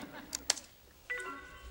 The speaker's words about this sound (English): What are you typing? Is that about me? No.